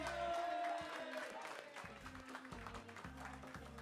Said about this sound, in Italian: Continua, sei in diretta, un applauso per la diretta.